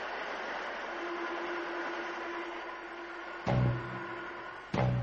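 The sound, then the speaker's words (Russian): A railway station with trains: a steady rumbling drone with a low hum, then two heavy metallic clunks near the end. No one speaks. “След вывел их на железнодорожную станцию.”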